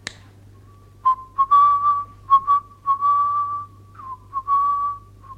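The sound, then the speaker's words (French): A person whistles a short, wandering melody, the clear notes rising and falling in a few quick phrases over a faint steady hum, with no talking. “Il le sifflotait souvent quand il était préoccupé.”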